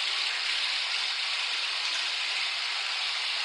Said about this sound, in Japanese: キリがないので、このまま全部シャワーで洗い流します。